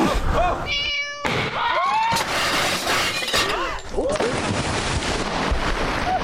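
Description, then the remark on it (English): A cat meows repeatedly, loud, its yowls rising and falling through a noisy burst of crashing, shattering sounds and commotion. “Luckily, the contortionist, being also an excellent swimmer, is able to rescue the drowning nuns and the cat.”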